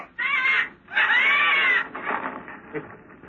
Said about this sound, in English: Gently, Mr. Harbison, or you'll set the birds to cawing. Caw! Caw! Caw!